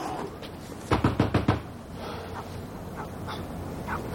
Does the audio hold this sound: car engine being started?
no